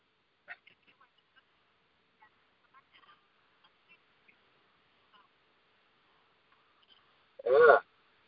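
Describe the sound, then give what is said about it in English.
Faint scattered electronic blips and chirps for several seconds, then one loud, buzzy burst of garbled noise near the end as a phone auto-dials back into a call-in show's line. “You just got to hear Kayla's phone auto-dialing back into the show.”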